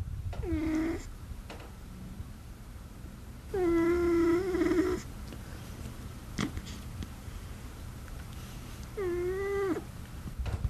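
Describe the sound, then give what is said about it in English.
A cat named Professor Banana snoring, with three drawn-out, whistling, squeaky tones that bend in pitch, spaced unevenly over a low steady background hum and with no talking. “Okay, here's Professor Banana snoring.”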